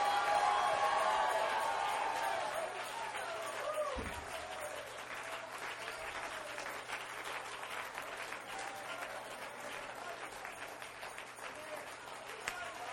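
audience clapping hands

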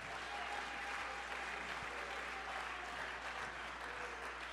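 audience clapping hands

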